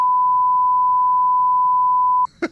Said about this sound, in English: And it's a long beep.